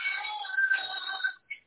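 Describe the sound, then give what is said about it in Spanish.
A short electronic phone alert for an incoming text message chimes with bright tonal notes for over a second, then a brief higher blip follows after a pause; fairly faint, with no talking. “Sí, ahí sonó ahorita que cayó un mensaje.”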